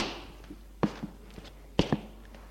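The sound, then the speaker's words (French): A few footsteps land as soft, dull thuds in an uneven rhythm, some in quick pairs, against a quiet background with no one speaking. “Des pas.”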